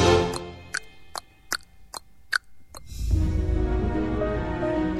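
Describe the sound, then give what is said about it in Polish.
A clock ticks in a steady, evenly spaced rhythm, about eight crisp clicks over three seconds, before a broad rumbling noise swells up and takes over. “I tak mi jakoś ciężko, samej wśród tych ścian, tykanie zegara znieść.”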